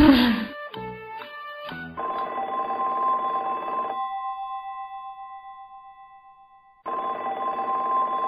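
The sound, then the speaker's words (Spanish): An old-style telephone bell rings in two long, rattling bursts separated by a pause of a few seconds, loud, after a short flurry of tones at the start. “El teléfono”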